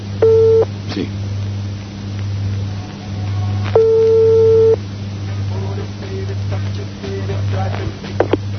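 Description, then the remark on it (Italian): A telephone ringback tone from a call placed from Radio Fiesole sounds twice, each burst about a second long and a few seconds apart, over a steady low electrical hum; near the end a voice briefly answers. “Sentiamo se è libero.”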